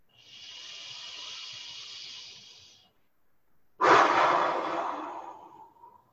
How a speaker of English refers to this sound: So like breathing in deeply through your nostrils, and then sort of forcefully exhaling. Go. And once again. So forcefully exhaling it through the mouth. Last time.